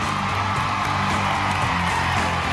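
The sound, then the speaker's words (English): A loud, dense roar of a crowd cheering and whooping at the unveiling of a blue Orange County chopper motorcycle with CNG written on it, steady throughout, with a low droning tone running underneath. “It's got CNG written on it, and the crowd went crazy.”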